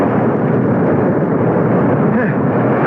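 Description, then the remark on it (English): A heavy wave crashes onto a beach, driving a boat ashore, in a loud, continuous roar of churning water, rushing steadily for the full few seconds with no voices. “We'll let the next wave drive the boat onto the beach.”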